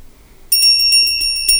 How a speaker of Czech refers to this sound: A teď ticho, slyšíte? Slyšíte? Co? Je. Slyšíte ten zvoneček? To je přece Ježíšek. Všichni pod borovičku.